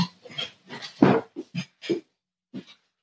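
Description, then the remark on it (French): A cat named Butternut meows repeatedly, about eight short, rough calls in an uneven run, a couple louder than the rest, with short silent gaps between them and no talking. “Je pense que vous devez l'entendre. Il est en train de miauler.”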